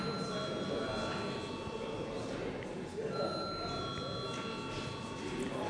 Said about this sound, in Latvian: Lūdzu zvanu.